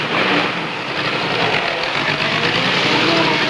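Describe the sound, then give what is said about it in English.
A taxi's engine hums steadily while its tires hiss and splash through large puddles, a loud, continuous wash of wet road noise as the cab pulls away from the curb. “watch as the taxi drives off, splashing through large puddles.”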